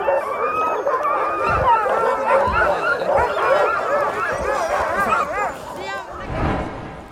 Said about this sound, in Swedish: Nu är det dags för mig och Pernilla att köra hundsläde. Och som ni hör är hundarna sjukt taggade.